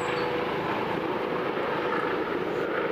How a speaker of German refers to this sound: Warum fliegt dieser blöde Helikopter eigentlich die ganze Zeit über mir rum? Um mich zu ärgern? Was will der von mir?